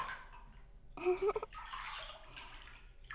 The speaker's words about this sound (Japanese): 水の音、気持ちいいですか？